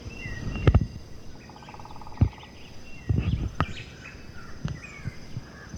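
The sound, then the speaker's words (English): Faint white-chinned thrush song and thin chirps of black-faced and yellow-shouldered grassquits come and go over a steady high insect buzz, broken by several loud low thumps and rustles. “There's also the white-chinned thrush singing, the black-faced grass quit, the yellow-shouldered grass quit.”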